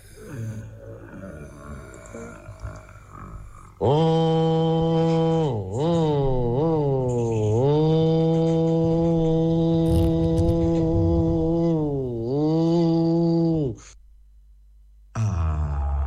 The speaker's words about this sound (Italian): Oh, quello che avete ascoltato era il soffiatore, il recording eseguito dal maestro.